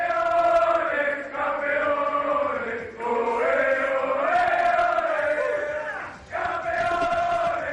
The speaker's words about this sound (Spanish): Así festejaban en el vestuario del Barça el título de Liga.